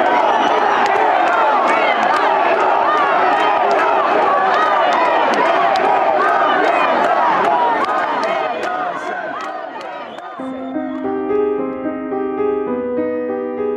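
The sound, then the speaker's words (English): An agitated crowd in the streets of Perugia outside the courthouse, upset at a not-guilty verdict, roars and shouts continuously, with sharp whistles cutting through the dense noise. After about ten seconds the crowd fades under sustained, tonal music. “You can still hear some whistling. People are quite upset.”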